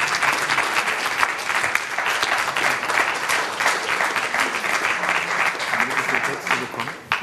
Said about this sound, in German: Ich darf jetzt, es ist untergegangen im Applaus, wirklich, es ist ein brillanter Vortrag